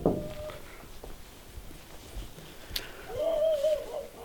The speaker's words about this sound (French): Là, il y a un chien.